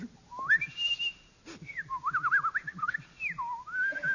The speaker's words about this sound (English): Try whistling it once more. Okay.